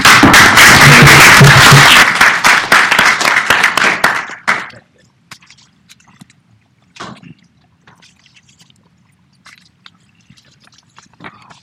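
A crowd breaks into loud, dense applause that lasts about four seconds, then quickly tapers off into quiet with a few faint, scattered claps and small sounds.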